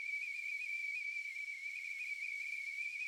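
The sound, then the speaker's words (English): A simulation of tinnitus: a steady, piercing high-pitched whistle like a tea kettle boiling, holding one unbroken tone with a faint airy hiss above it for the whole stretch. There is no talking. “They can express it as sounding like crickets, buzzing, a tea kettle going off.”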